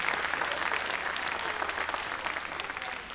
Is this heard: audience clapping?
yes